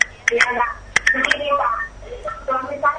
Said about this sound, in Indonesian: Mohon Ibu untuk mengecilkan terlebih dahulu televisinya supaya suaranya lebih jelas, cukup melalui line telepon saja.